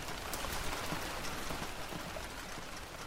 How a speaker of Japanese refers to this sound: 今日も雨だね。天気予報だと明日も雨だってさ。 僕は嫌いじゃないけどね、雨。